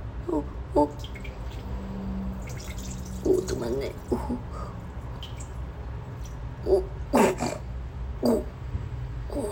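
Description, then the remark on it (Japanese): A person urinates in a men's restroom, a steady stream trickling continuously with scattered drips and splashes, while soft breathy vocal sounds and whimper-like noises rise and fall over it. “出てる。おしっこ、メス犬ポーズでおしっこしちゃってる。”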